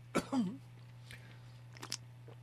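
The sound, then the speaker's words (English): Someone takes a quick sip and a gurgling swallow of a refreshing cold drink, followed by a few faint mouth clicks over a steady low electrical hum. “I'm going to just turn to my refreshing cold drink here.”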